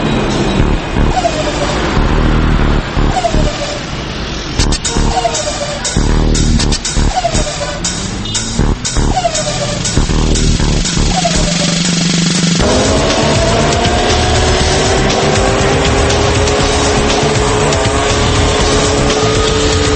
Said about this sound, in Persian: شما فکر میکنید کدوم ماشین تو ایران بیشترین آلودگی صوتی رو ایجاد میکنه؟ من صدای ماشین شنیدم دارم گاز میدم انگار.